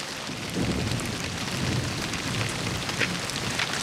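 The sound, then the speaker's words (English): Steady rain pours down in a continuous, dense hiss with scattered drops pattering on surfaces, a low rumble underneath, and no voices. “takes off his helmet and raises his face to the rain, opening his mouth.”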